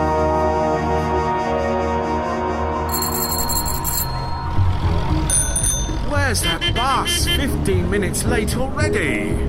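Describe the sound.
A busy street scene on the Edgware Road, with a steady, dense rumble of traffic from a long line of buses and taxis moving nose to tail, bright bicycle bells ringing in quick bursts as bicycles weave through, and voices calling out over the bustle.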